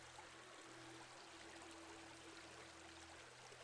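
A steady, continuous rush of stream water flowing among trees, with broad hissing texture, even in level throughout, with a faint low hum beneath and no voices.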